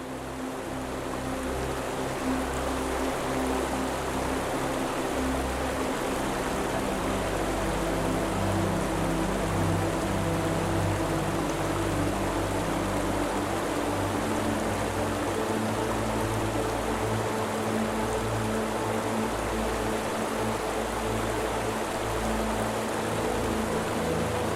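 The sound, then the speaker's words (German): Flowing river water rushes softly and steadily for the whole stretch, a continuous even wash of sound with a low droning hum running underneath and no voices. “Genießt das sanfte Rauschen des Flusses und die leisen Geräusche der Menschen um dich herum, die wie du die Magie des Augenblicks spüren.”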